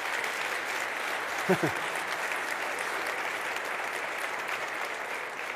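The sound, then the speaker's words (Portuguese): An audience applauds steadily, a dense, even wash of clapping that holds at the same level throughout, with a brief vocal sound rising over it midway. “Podemos aplaudir?”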